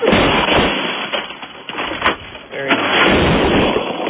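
Loud shotgun blasts boom in a rapid, irregular string, each sharp crack trailing into heavy rumbling noise that barely lets up over the few seconds.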